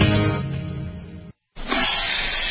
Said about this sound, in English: Ah, the copperhead snake. It hisses before attacking. But that's not a copperhead. That's the Sullivan's RV freshwater tank overflowing into their black one, which is backing into their vent pipe, making for a very different kind of attack.